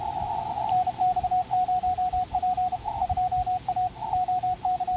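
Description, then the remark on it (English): A steady stream of Morse code (CW) sidetone beeps from an amateur radio station set up in a garage during a Field Day exercise, a single mid-pitched tone keyed by an operator in rapid dots and dashes, fairly loud over a low background hum and noise, with no talking. “the operator on the left is Mike, KB0VXN, doing some CW, Morse code”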